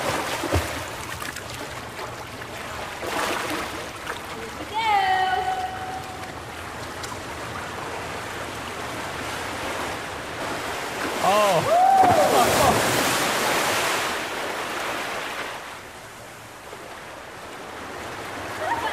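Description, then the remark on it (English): An orca tosses a swimmer up out of the water with its nose: water churns and splashes steadily, with two louder surging bursts as something big breaks the surface, and brief high whistling squeals ring out over the rush. “Nambu actually tosses me right up out of the water. You mean with her nose?”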